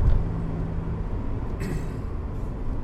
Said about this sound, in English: just coming up to Snake Hill. So I'm going to turn off the traction control. And, sorry car, I know you haven't had a good workout, but you're going to get one now. Here we go.